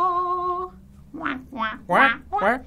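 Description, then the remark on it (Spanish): A duck quacks four times in a quick, uneven series, loud, following a short sustained musical tone. “Vi un pato muy pequeñito.”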